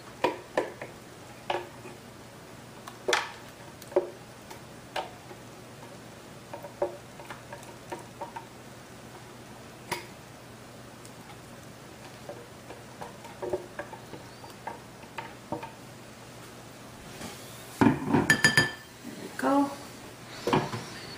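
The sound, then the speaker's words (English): Repeated short scrapes and clicks of a utensil against a blender jar as the last of a silky avocado mixture is scooped out, irregular, ending in a louder cluster of knocks and scraping. “Okay, I'm gonna scoop every last bit of it out.”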